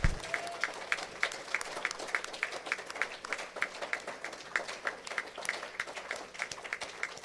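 A church audience claps hands for the Lord in sustained, loud applause, a dense crackling wash of many hands with a steady, regular beat of sharper claps running through it.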